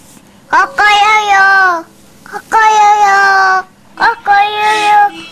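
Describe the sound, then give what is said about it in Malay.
A voice imitates a rooster crowing three times in a row, each call a short clipped syllable rising into a long, loud, tonal held note, with brief pauses between them. “Kakak itu bunyinya ayam.”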